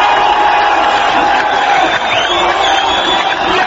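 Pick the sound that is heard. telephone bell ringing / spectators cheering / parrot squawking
spectators cheering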